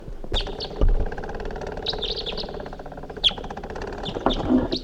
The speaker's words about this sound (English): The calls of the decoys have aroused the attention of another wild bird who's coming in. Song phrased by that second wild bird far in the distance.